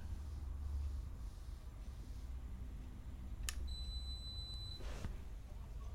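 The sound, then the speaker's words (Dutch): A dishwasher beeps to signal its cycle is done: one clear, high-pitched electronic tone lasting about a second, framed by a soft click before and a brief rustle after, over a low steady hum. “Oh, dit is de afwasmachine dan die klaar is.”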